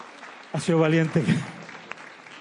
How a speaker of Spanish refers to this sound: Un aplauso a John David.